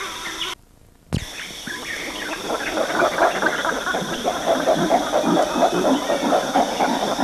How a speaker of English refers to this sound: Chimps hooting in the distance.